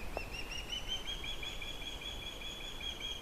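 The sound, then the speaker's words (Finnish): Soft, thin, high-pitched flight calls from young birds learning to fly in late July, heard from the sky and slightly different in tone from the parents' calls, run through the whole recording as faint, steady whistling tones wavering slightly in pitch over a quiet background hiss, with no voices. “Hentoja lentoääniä kuuluu taivaalta, vähän eri sävyisiä kuin emoilla.”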